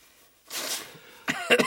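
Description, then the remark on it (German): Someone blows their nose: a breathy, hissing blast followed by a few short, honking snorts, with no talking. “Es tut mir leid. Im Naseputzen.”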